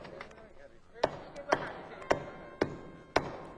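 Five sharp hammer blows land at a steady, fairly quick pace as nails are driven into the door of a tiger's cage, distinct over a faint murmur of background noise.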